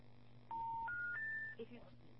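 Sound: phone call dropping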